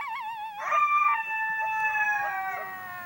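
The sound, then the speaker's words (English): A sustained, wavering animal howl with layered harmonic tones, rising and holding steady for a few seconds, fairly loud and alone with no talking. “Their howls are bone-chilling, part of their lore.”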